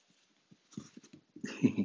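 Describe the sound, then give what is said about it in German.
A tomcat makes a run of short, soft vocal chirps and grumbles, starting faint and sparse, then rising into louder, throatier calls near the end. “Ja, mein Kater ist das hier. Guck mal, mein Kater.”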